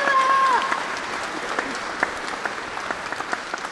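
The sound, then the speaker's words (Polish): A crowd at a gathering in the palace at Broniszewice claps steadily to welcome three nuns, the applause dense and sustained, with a brief high whistle-like tone near the start and scattered sharper claps as it gradually thins out. “Brawo!”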